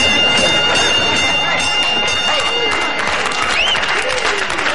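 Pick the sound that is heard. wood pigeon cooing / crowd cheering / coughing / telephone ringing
crowd cheering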